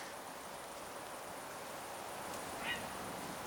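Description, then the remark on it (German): A single brief, thin bird call rings out once near the end, over a steady rushing background like flowing water or wind, heard outdoors among trees while a group stands quietly. “ich glaube, irgendein Vogel. Der hat so gemacht gerade.”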